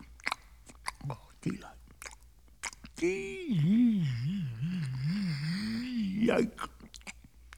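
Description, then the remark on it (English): Wet, sticky chewing and lip-smacking clicks as someone eats a sticky peanut butter sandwich come in short bursts, then give way to a muffled, wavering hum, like a voice mumbling through a mouthful of food. “And then, one day, he took a bite and started chewing with delight.”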